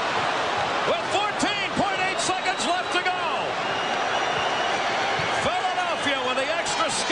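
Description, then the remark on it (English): Goalie Mike Vernon whacks his hockey stick against the metal goal post a few times, ringing out over a roaring crowd at Joe Louis Arena in Game 4 of the Stanley Cup Finals, Detroit Red Wings against the Philadelphia Flyers, after the Flyers scored to make it 2-1 late in the game; an announcer talks throughout. “Mike Vernon slams the post.”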